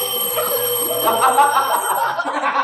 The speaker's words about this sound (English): One morning, the doorbell rang.